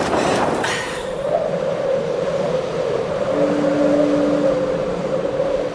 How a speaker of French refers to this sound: Oh putain, si ça fait ça toute la nuit. Psychologiquement, d'entendre le bruit du vent comme ça, c'est affreux.